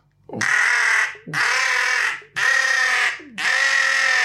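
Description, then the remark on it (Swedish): Four loud, harsh cawing calls in a steady rhythm, each about a second long with a rasping, buzzy tone, blown on a bird call to mimic a jackdaw. “Om man skulle göra kajernas ljud.”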